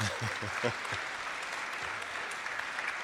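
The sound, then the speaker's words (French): An audience claps for Norman Spinrad and Robert Silverberg before they have spoken, in steady, dense applause that fills the whole stretch at an even level, with a few low voice-like bursts near the start blending into the clapping. “Vous avez de la chance, vous êtes applaudi avant d'avoir parlé.”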